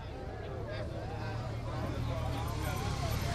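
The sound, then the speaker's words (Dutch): Two police motorcycles escorting the car carrying Princess Máxima drive onto the grounds of the new Wessel-Gansvoort College school building at 12:30, with a steady, low engine drone that swells slightly, over a busy background of crowd murmur. “Politiemotoren rijden voorbij.”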